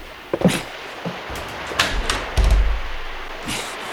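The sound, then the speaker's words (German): The handle of a locked door, thought to lead to the galley of a fishing boat converted into a pirate ship for filming, is tried several times, giving short metallic clicks and rattles with a dull thud in the middle, but the door doesn't open. No voices. “Da ist eine Tür.”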